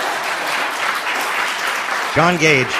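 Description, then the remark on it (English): An audience applauds a former student and research assistant with a dense, steady wash of many hands clapping, and a man's voice starts speaking over the tail end of the applause. “Yes, you can applaud.”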